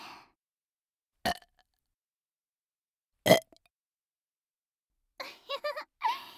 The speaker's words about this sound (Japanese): 来ちゃう、行くよ。残念ゲップ決めるよ。こっちの耳でね。